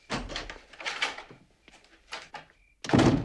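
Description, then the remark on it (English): A man handles a door with several scraping, knocking bursts before closing it behind him with a loud thud at the end, leaving a dog behind boarded gaps. No one speaks. “He closes the door behind him, leaving Hooch to watch him go through the gaps in the boards.”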